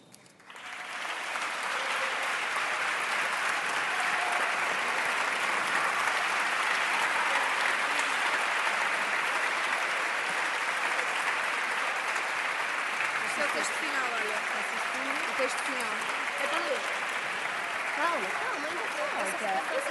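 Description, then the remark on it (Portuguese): Sustained, loud applause from a large audience, dense clapping holding steady throughout with faint voices mixed in toward the end. “com grande aplauso, para dar mais força a esta recomendação aprovada a nível nacional”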